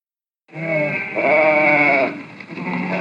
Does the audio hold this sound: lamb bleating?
yes